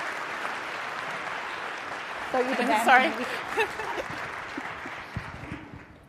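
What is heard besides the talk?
audience applause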